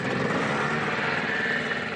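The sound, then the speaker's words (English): A Honda Pilot off-road buggy engine runs steadily on a bitter, windy day in an open field at Banzai Sports, a constant rough, buzzing drone with a low throb underneath and a faint whine on top, holding an even loudness throughout with no voices. “And a noise in the background you may well hear is Honda piloting.”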